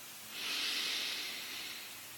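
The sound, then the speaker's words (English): A single slow, deep breath taken during a box breathing exercise, a steady airy hiss that swells, holds for about a second, then gradually fades, with no talking. “Slowly exhale for four. And then hold that empty breath for 4 seconds.”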